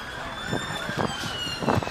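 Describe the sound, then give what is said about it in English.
An emergency siren wails steadily in the Grasa neighborhood, its tone held high over street noise, with a few faint voices and traffic sounds passing. “There's another one.”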